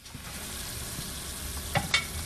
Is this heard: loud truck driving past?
no